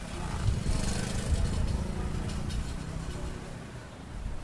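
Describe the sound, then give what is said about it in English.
A steady, droning engine hum from running generators in Plastic City, a squatter area of wooden shacks just outside Georgetown by the Demerara River, fills the whole stretch, a low throbbing rumble with a faint hiss above it and no clear pauses. “The hum of generators is everywhere in an area just outside of Georgetown they call Plastic City.”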